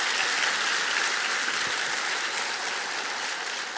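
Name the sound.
audience applauding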